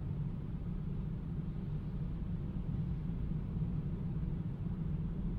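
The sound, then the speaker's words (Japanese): Steady low road rumble from inside a moving car, a constant muffled drone at even volume throughout with no voices or distinct events. “移動中の車なんて、そうそう中を見られるものじゃないわよ。”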